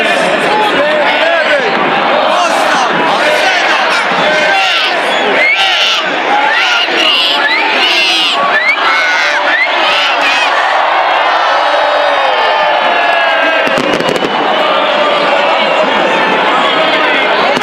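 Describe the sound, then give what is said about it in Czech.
A large crowd of about 12,000 people cheers and shouts continuously at a New Year celebration on the main square of Zagreb, Croatia, with a music programme and fireworks at midnight: a dense, loud wash of many voices with whoops rising above it, swelling in the first half and staying busy throughout. “Novu godinu na glavnom zagrebačkom trgu dočekalo je oko 12.000 ljudi uz glazbeni program i veliki vatromet u ponoć.”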